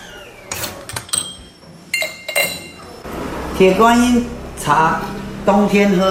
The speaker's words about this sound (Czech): Paní vytáhla takovou speciální mističku, nasypala do ní jeden z těch čajů a už vedle ní se vaří konvice s horkou vodou.